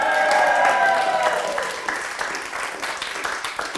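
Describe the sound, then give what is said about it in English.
A theatre audience at the Bath Theatre Royal Ustinov Studio cheers and applauds during a streamed show, with loud whoops and yells over dense clapping at first; the voices then fade, leaving steady, crackling applause. “Let's have another cheer, please.”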